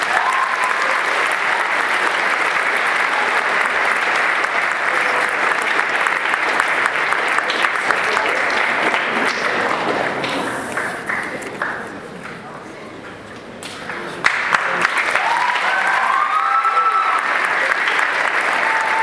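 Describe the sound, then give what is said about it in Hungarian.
Sustained applause from an audience, a dense steady patter of many hands clapping that briefly thins and softens before swelling back to full strength, as prize winners are called up to receive their awards. “Kérem, hogy jöjjenek is, hogy tapsot megérdemelnek.”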